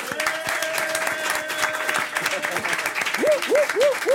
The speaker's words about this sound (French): Applaudissez François Vincentelli et Ambroise Michel.